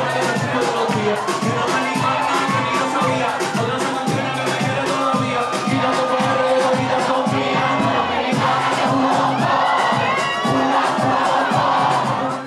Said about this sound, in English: At La Vergenza, Puerto Rican, Chinchorro, in Orlando Square, the crowd was packed, singing and dancing together.